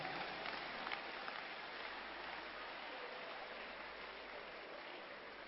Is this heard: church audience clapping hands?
yes